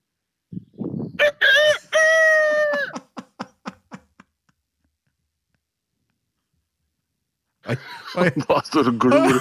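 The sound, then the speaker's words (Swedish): A man imitates a rooster's crow, one loud, rising, strained cry that breaks into a few short clucking bursts and fades. After a pause, people start talking. “Vilken tupp imitatör.”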